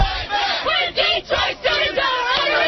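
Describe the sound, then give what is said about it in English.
A large crowd holding signs chants together outside the Katherine Ferguson Academy, loud rhythmic bursts of many voices rising and falling in a steady cadence with brief dips between phrases. “Holding signs and chanting together, a large crowd gathered outside the Katherine Ferguson Academy earlier today.”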